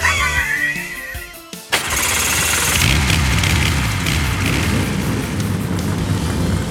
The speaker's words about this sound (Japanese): さあ、各社が一斉にエンジンを吹かす。エキゾーストが奏でるオーケストラサウンド、長い舞台の幕が今開いた。